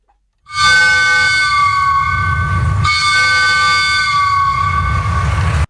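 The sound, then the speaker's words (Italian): Three loud, steady train whistle blasts, the traditional whistles marking the commemoration of the 2 August 1980 Bologna station bombing, held for several seconds with a brief break midway, over a low rumbling engine. No one speaks. “Quelli che avete sentito sono i tradizionali tre fischi in occasione delle commemorazioni.”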